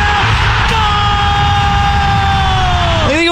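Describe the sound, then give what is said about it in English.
A huge stadium crowd roars loudly and without pause, a sustained droning tone riding over the din and slowly sliding lower before a brief upward swell at the end. “Just listen to this crowd, by the way.”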